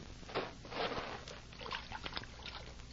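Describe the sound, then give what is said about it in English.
Water sloshes and splashes in a few soft, irregular bursts as someone tests the water of a water hole, with faint trickling in between and no talking. “I'm going to test the water.”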